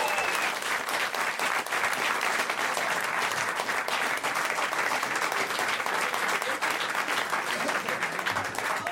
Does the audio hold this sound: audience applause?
yes